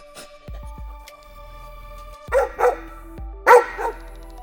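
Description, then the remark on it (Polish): A dog gives three sharp barks, two in quick succession followed by a louder one after a short pause, with a low steady hum underneath and no voices. “Nie szukaj, piesku, nic tu nie ma.”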